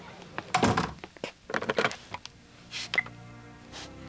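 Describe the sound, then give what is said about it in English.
A door is pushed shut with a solid thunk, followed by a few sharp clicks and rattles of the latch, then a faint lingering hum with no one speaking. “Could you close the door, please?”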